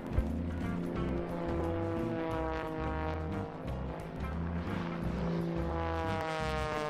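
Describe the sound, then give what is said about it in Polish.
A loud, steady aircraft engine drone with a low, pulsing rotor-like throb underneath, continuous throughout, as an airplane and a helicopter fly near each other. No one speaks. “Popis stalowych nerwów zarówno pilota samolotu, jak i śmigłowca.”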